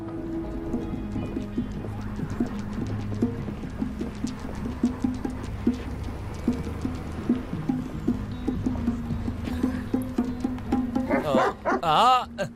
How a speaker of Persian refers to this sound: سگ بد، باغ باغ و آروم باش.